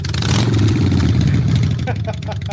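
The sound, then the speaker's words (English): A motorcycle engine revs loudly in a steady, throaty low rumble with a rattling edge, easing slightly toward the end as a few short clicks come through, in a staged reenactment of an assassin on a motorcycle speeding alongside an Iranian nuclear scientist's car to attach a magnetic bomb. “A covert assassin on a motorcycle sped alongside the scientist's car, attached a magnetic bomb, and sped away, then detonating the bomb by remote control.”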